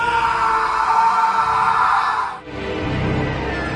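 A long, loud scream rings out for a couple of seconds, breaks off abruptly, and gives way to a lower, rougher sustained sound.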